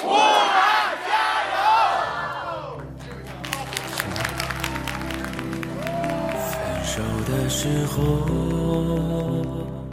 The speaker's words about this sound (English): That chant there, Stay Strong Wuhan. We spoke with American Chinese comic Jesse Appel at a fundraiser for Wuhan, the city in quarantine in China.